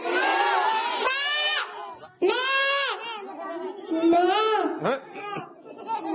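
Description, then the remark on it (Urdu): Several people, including children, imitate the bleat of a billy goat with loud, wavering, quavering voices, overlapping in a continuous string of drawn-out bleats. “اچھا بکرا ایسے آواز نکالتا ہے.”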